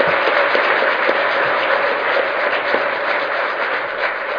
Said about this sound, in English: Please give a round of applause to these golden opportunities.